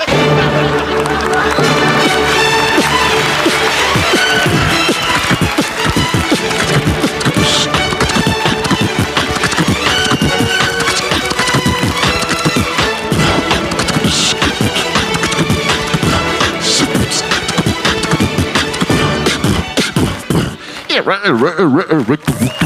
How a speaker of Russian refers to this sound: Выходит на локейшн, встает за вертушки. Слышен скрэч винила, ловите хаус-микс на Руслан и Людмила.